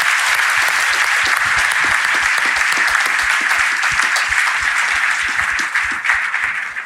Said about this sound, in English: Well, thank you guys so much for being here. We really appreciate this. Can we give everyone a round of applause?